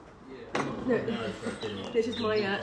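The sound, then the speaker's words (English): A bird tweets at sunset in a quick run of bright, warbling chirps, moderately loud, with the calls continuing almost without pause. “But, oh, that's a genuine bird that's like tweeting.”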